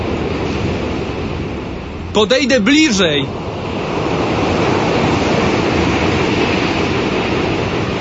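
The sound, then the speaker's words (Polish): A steady, rushing wash of sea waves breaking on the shore, heard in the distance, fills the whole recording and swells slightly louder near the end. A man speaks briefly over it partway through. “Tak, to morze.”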